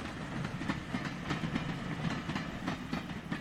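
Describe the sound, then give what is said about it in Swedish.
A railbus heading south towards Copenhagen rumbles along the tracks with a steady low drone, broken by regular clickety-clack beats from the wheels passing rail joints. No voices are heard. “Så i början av oktober säger hon hej då till dottern Eva-Lena och familjen hemma i Hagfors och sätter sig på rälsbussen söderut mot Köpenhamn.”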